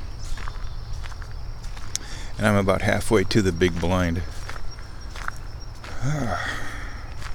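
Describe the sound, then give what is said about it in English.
Steady footsteps crunch through dry leaves on a leaf-covered path, continuous, while a man speaks softly over the rustling walk. “Alright, so I'm still moving.”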